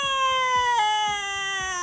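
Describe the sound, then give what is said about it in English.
A baby cries, heard through a wall, in one long, sustained, high-pitched wail that dips slightly in pitch partway through. The cry is steady and fairly loud, with no talking. “Like a baby screaming? You can hear a baby like they're in the room with us,”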